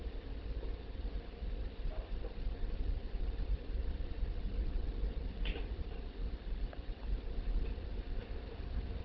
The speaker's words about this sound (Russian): Представленный комплект двигателей обеспечивает полное пространственное управление движением макета.